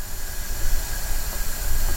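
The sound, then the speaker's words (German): A steady, loud hiss of high-pressure hydrogen rushing into a bus's hydrogen tanks, mounted on the roof above the driver's cab, at a hydrogen filling station, with a low rumbling undertone and a few faint tonal whines; no talking. “Ja, so hört sich das an, wenn die Wasserstofftanks befüllt werden.”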